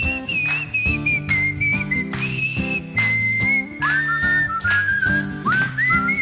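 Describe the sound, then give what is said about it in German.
A group whistles a bright, bouncy melody together, loud, over a steady band backing with thumping drums and bass, with no talking. “Los, alle mitpfeifen, weil wenn wir pfeifen, sehen wir alle gleich scheiße aus.”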